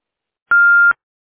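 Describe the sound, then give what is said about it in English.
A single steady electronic beep from an answering machine after its greeting, signaling to leave a message: about half a second long, a clean pure tone around one kilohertz, loud and clear with silence before and after. “Hello, I'm sorry that I missed your call, but if you leave your name and number at the beep, I'd be sure to get back with you as soon as I can.”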